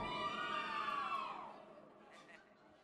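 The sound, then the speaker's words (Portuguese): An audience at a band's live show lets out shrill, high-pitched squeals and screams together, loud and sustained for about a second and a half before trailing off into softer crowd noise. “Quem gostou de dar um gritinho?”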